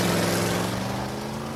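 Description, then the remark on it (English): A car engine hums loudly as Noah's car pulls away in the street, its steady low drone easing off slightly over a second and a half, with no voices. “He pulls away, leaving her standing in the street.”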